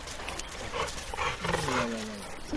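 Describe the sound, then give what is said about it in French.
A dog growls and snarls playfully in a rough, rumbling burst lasting a couple of seconds, with scuffling noise and a faint voice in the background. “Là, il est un peu foufou, là.”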